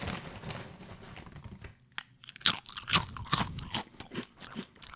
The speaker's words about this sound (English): Not only are these chips sturdy and crunchy, they're absolutely delicious.